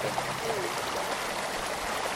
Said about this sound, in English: Oh, yeah. There's a babbling brook.